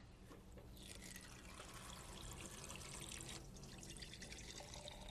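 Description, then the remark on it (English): Water runs steadily from a tap into a jar in a kitchen, a continuous splashing rush that fills the whole stretch without pause and with no talking. “I'll get some water in this jar.”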